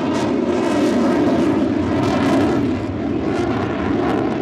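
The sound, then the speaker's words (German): A German Air Force Eurofighter jet thunders as it dives onto an airfield in India under low monsoon clouds during the Pacific Skies exercise, a loud, steady, rumbling roar that fills the whole clip with no letup and only slight swells in intensity. No voices are heard. “Er steigt direkt nach dem Start steil in den Himmel, verschwindet kurz in den tiefhängenden Monsunwolken und stößt dann unter ohrenbetäubendem Donnern auf das Flugfeld hinab, um dann in einer steilen Linkskurve wieder abzudrehen.”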